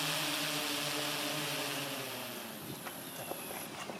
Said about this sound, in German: Bei Vuilly am Murtensee ist heute ein solches Fluggerät vorgeführt worden. Digitalredaktor Reto Wittmer war dort, als die Drohne zum Start ansetzte.